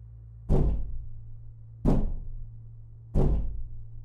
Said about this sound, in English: Something then began to strike the door over and over again.